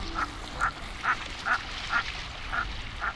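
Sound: common merganser duck calls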